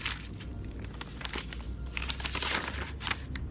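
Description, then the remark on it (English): A paper note crinkling and crumpling in a jacket pocket, a steady run of soft, dry crackles and rustles with a few sharper snaps, fairly quiet and with no voices. “I was about to get out of my car when I heard the paper crumple in my jacket pocket.”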